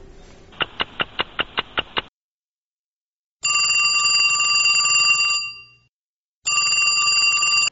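A telephone rings: first a quick burst of about seven sharp bell strikes, then two long, steady electronic rings with a pause between, loud with no talking.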